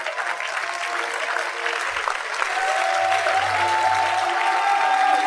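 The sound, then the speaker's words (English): An audience claps loudly and steadily for several seconds, a dense wash of many hands, with a faint sustained tone and murmuring voices underneath. “You can clap.”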